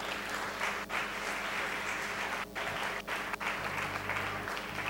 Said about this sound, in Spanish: Denle un aplauso si se va a dar a Cristo.